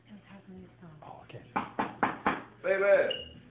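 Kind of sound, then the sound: impact, knocking on a door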